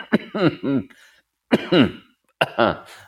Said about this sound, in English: I'm going to cough. Pardon me.